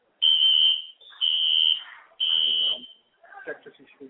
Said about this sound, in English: And I don't know if you're still hearing the alarm right now, but I'm the only one that's talking, so I ask you to bear with me.